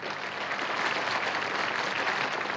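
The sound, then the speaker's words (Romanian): Steady, dense applause from a large crowd greeting the child musician Wolfgang Mozart in a new city. A continuous wash of clapping hands holds an even loudness throughout without pausing or fading. “În fie ce nou oraș îl întâmpinau aplauze nesfârșite.”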